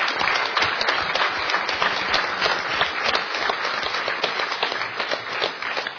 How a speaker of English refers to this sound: I think they deserve a good round of applause just for their generosity.